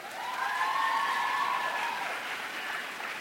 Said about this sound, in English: How many, clap your hands if you're single.